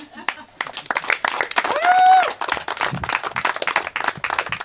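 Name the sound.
audience applause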